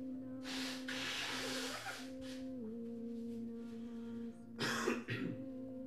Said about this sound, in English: I quickly blow my nose.